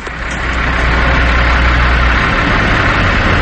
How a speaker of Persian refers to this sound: چه صفی اینجا، این همه ماشین سنگین چرا تو صفن؟ گازوئیل که مشکلی نداره زدنش.